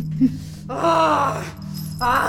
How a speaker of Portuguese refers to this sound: uma onda violenta de gritos estridentes produzidos pelas cordas vocais da figura acorrentada quase me derrubou.